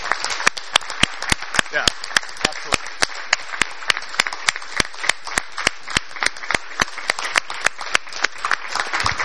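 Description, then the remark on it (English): A small group gives a steady round of applause at the end of a meeting for the outgoing chair of the Registrar Stakeholder Group, dense clapping with a few sharp claps cutting through at a quick, even rhythm for about nine seconds. “So I just wanted to end the meeting with a note of thanks to him for his service and a round of applause for him”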